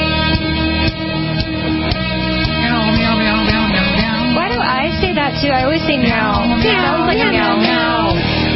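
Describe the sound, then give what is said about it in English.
A cat meows several times in quick succession, the cries rising and falling in pitch, loud, over a steady, dense musical-sounding background. “Yes, it's Meow Talk Live.”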